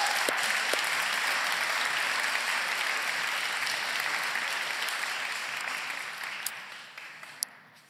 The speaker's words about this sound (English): You guys want to give those guys one more round of applause? That's pretty cool.